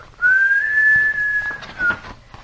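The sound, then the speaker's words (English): A clear whistle holds one long, steady note that rises slightly, then breaks off and gives a brief second chirp. No voices, just the whistle on its own. “I'll play with you, wind. Just give a whistle.”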